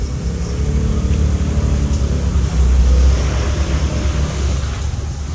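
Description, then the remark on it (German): A decorated motor scooter engine drones loudly and steadily as the scooter drives away, swelling briefly as it revs midway, with a rough low rumble throughout and no voices. “Es ist wahrscheinlich gerade Hilde, die da wegfährt.”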